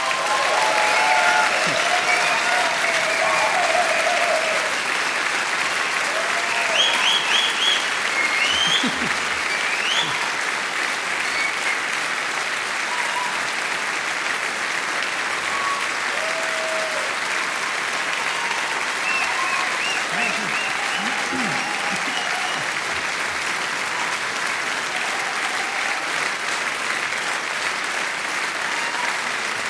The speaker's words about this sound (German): Applaus für den Maxi Schafroth und seine Fastenpredigt 2023.